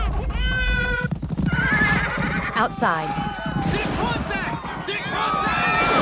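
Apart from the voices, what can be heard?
horses galloping and neighing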